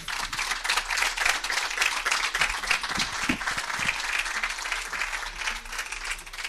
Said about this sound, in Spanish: un aplauso, muchísimas gracias.